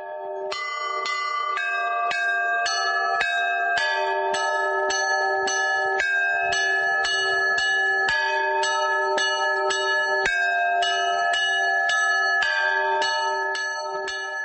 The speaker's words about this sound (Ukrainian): пропоную усім послухати дзвони старої козацької церкви архістратига Михаїла, що вже четверте століття, власне, нараховує. Тепер вона у музеї народної архітектури у Пирогово під Києвом. І ось як ці дзвони говорили у вербну неділю.